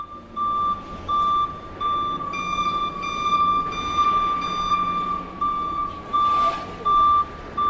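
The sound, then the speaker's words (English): A Combilift forklift truck's reversing alarm beeps steadily in a repeating on-off pattern, loud, over a constant low engine rumble with faint machinery noise around it, at the forklift maker in County Monaghan, Ireland. “Combilift, a manufacturer of boutique forklift trucks, is one of the biggest employers along the Irish border.”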